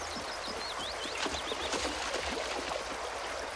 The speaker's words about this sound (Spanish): Un soldado cruza el río.